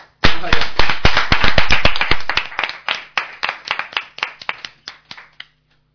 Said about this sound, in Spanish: no está la gente de Geometrance aquí, pero de verdad que os merecéis un gran aplauso porque lo hicisteis fenomenal.